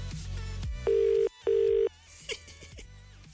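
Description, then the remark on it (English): A phone line ringing out on an outgoing call: two loud, steady double-ring tone bursts in quick succession, heard clearly over a faint low background hum. “Oh, I'm so glad you picked up your phone.”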